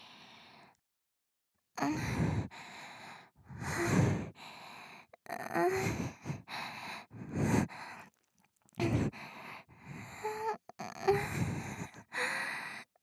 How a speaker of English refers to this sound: Or is it that with your pussy this wet and your heavy breathing, in fact, you are actually awake or something?